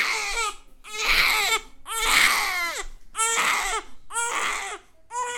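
A baby cries loudly in repeated wailing bursts, about five rising-and-falling cries separated by short gasping pauses.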